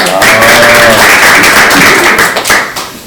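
An audience breaks into loud applause, many hands clapping in a dense, steady patter for about three seconds before it starts to thin out at the end.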